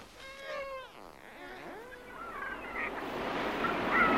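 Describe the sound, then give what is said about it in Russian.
Dolphin calls: a series of squeaky, whistling cries that slide up and down in pitch, followed by a rushing wash of surf-like noise that grows steadily louder toward the end. “Кажется, голос дельфина.”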